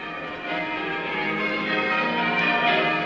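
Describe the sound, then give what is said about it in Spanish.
Church bells in Assisi ring continuously for the death of Francis, their overlapping tones blending into a dense, sustained metallic clangor that stays loud and steady throughout, with no voices present. “Cuando en Asís se oyeron aquellas campanas, todos supieron que era porque Francisco ya había muerto.”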